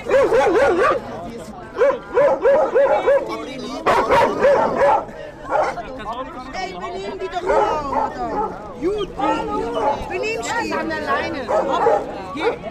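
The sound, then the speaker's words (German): Several dogs bark and yip in quick bursts over a steady hubbub of people chattering, about 20 people sitting on the steps in front of a church in warm weather, drinking beer, chatting, calling out and trying to keep their dogs in check. “Die Leute genießen die seltene Wärme, trinken Bier, schlafen ihren Rausch aus, plaudern, rufen oder versuchen, ihre Hunde im Zaum zu halten.”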